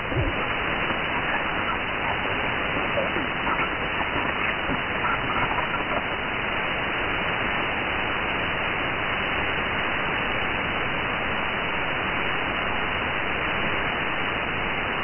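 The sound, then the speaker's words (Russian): Steady, dense radio static on the radio band fills the whole clip, a continuous hissing crackle with no voices breaking through, holding at an even loudness throughout. “Сплошная трескотня стоит.”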